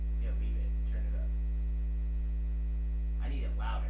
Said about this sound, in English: This is the sound. If you ever wondered what it sounded like inside your fridge, this is what your oranges hear.